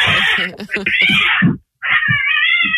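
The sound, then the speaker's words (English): A cat yowls loudly in two long, wavering cries separated by a brief pause after being stepped on, with voices talking underneath. “Well, he stepped on it, and then the cat was like, I don't like being stepped on.”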